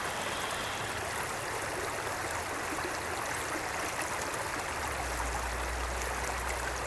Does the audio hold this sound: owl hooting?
no